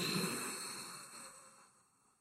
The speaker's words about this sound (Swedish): Den enklaste formen egentligen bara är att andas in, andas ut genom näsan. Man drar upp luften. Man ska låta som Darth Vader ungefär. Och så på toppen stannar det till. En sekund. Och så blåser.